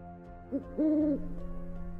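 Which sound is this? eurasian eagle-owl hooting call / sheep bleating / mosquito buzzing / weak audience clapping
eurasian eagle-owl hooting call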